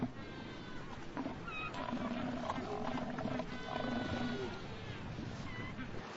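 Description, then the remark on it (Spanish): A male elephant seal roars in a deep, continuous bellow that rumbles on for several seconds, loud, with harsh throaty pulses over a steady low drone. “Estas protuberancias inflables ayudan a amplificar los rugidos que pueden oírse a un kilómetro de distancia.”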